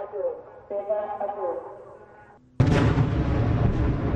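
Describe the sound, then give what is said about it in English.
In southern Israel, a wavering, quieter red alert warning tone gives way to a sudden, very loud explosion, one of two loud bangs. Its heavy rumbling roar fills the rest of the moment and stays sustained. “As smoke filled the sky over the Gaza skyline on Wednesday, a red alert warning was heard in southern Israel, followed by two loud bangs from explosions.”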